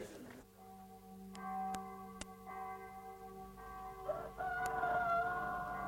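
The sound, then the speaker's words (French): A rooster crows loudly, its long strained call rising and holding, with a few sharp clicks and a faint low hum in the background. No one speaks. “Le chant du coq.”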